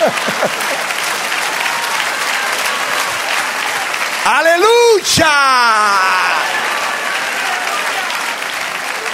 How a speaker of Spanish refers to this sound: Ahora denle un aplauso al Señor.